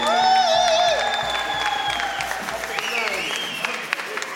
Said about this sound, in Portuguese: Uma salva de palmas